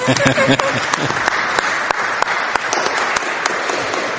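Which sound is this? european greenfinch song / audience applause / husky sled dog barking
audience applause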